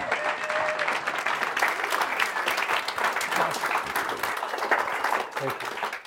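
A large audience applauds steadily, dense overlapping claps at a loud, even level for about six seconds, tapering slightly right at the end, at a gathering in Coal Creek Canyon.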